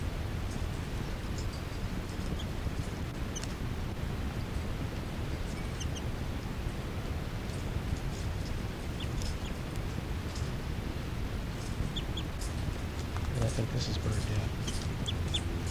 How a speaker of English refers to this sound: And a begging call by the new juvenile female. 5-9 chitter. Kind of loud.